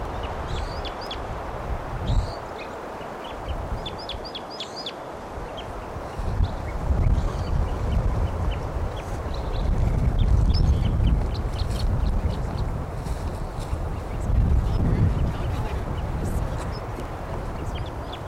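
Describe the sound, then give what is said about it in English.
Repeated bright, high-pitched wild bird calls in short bursts over a steady, rumbling background din, with occasional low murmuring voices mixed in. “Wild bird.”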